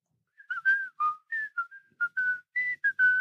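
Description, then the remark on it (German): A person whistles a quick, tuneful run of short clear notes, fairly loud, the pitch hopping up and down in a playful melody with no talking. “Ja, weil ich kann mir vorstellen, dass du nächste Woche so, da kommst du dann so zu mir und pfeifst dann auch noch so.”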